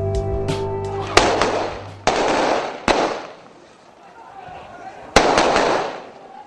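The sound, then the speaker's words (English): Four loud, sharp gunshots fired by Haitian police trying to chase away looters in Port-au-Prince, Haiti, ring out at irregular intervals, each cracking and echoing outdoors, with the murmur of voices in the background. “Gunshots there from Haitian police trying to chase away looters in Port-au-Prince.”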